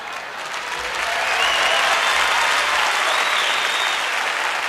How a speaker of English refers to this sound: You can't clap if you can't carry the beat, so you gotta not clap, okay?